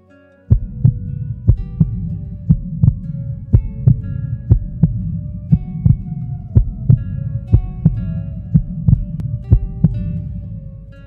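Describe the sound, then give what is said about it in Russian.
A steady, close heartbeat thumps along at a regular pace over a low, droning hum. Each beat is a dull, muffled thud, and the rhythm holds even without speeding up or trailing off. “Слыша угасающее сердцебиение, я стал понимать, что жить не осталось совсем немного.”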